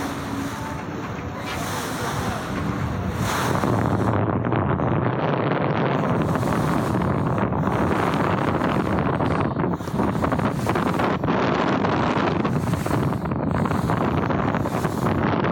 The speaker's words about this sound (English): I'm going to pan to the left. That's over where Capernaum is, right there. Now I'm panning to directly across the Sea of Galilee. Listen to the wind.